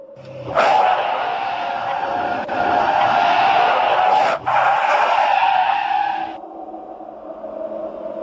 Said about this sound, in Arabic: غريب، ماذا حدث؟ أحد الإطارات انفجر.